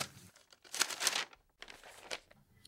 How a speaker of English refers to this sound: The rustle of papers as they were crumpled, folded, glued, and set, pushed against the silence of the room.